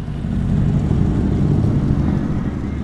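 A motorcycle engine rumbles steadily, a deep throaty drone that holds an even loudness for a few seconds with no speech over it, as Bisbee Mayor Jack Porter rides up on a red motorcycle.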